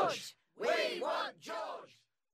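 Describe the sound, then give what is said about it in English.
A crowd shouts in unison, three loud rhythmic bursts like a chant, with voices rising and falling together and brief pauses between calls, calling for their favourite film star to make an appearance. “What on earth are they shouting? I think they want their favourite film star to put in an appearance.”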